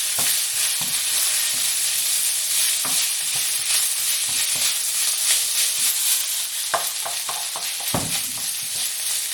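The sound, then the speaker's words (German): Steady hiss of a ladle of oil sizzling in a hot pan as food is lightly fried, broken by irregular scraping knocks of a utensil stirring and tossing food, with no voices. “So, ein bisschen anbraten.”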